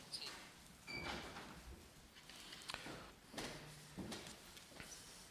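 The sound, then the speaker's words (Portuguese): A door swings shut with a few dull knocks and scraping shuffles amid room bustle and faint background murmur, closed on request during a meeting. “Penso que não há jornalistas, de toda maneira, peço para fecharem a porta.”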